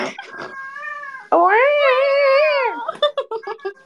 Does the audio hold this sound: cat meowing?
yes